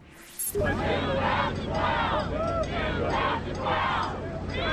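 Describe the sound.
A large crowd in Alaska cheers and shouts continuously at Governor Sarah Palin's homecoming rally, a dense roar of many voices with rising whoops and yells, starting abruptly after a brief quiet moment and staying loud throughout.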